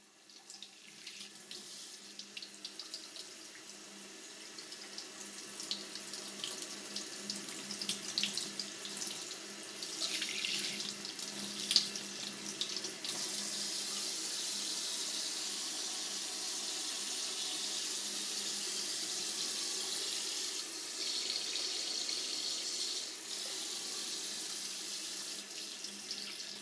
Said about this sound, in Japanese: ではシャワーでお耳を洗い流していきます。では右のお耳から。